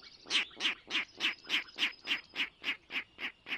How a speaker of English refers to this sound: Now there's a comical sound coming from the marsh. It's a Virginia rail, unseen but hardly unheard, ringing in the new season.